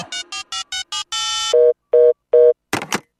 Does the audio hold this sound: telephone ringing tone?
yes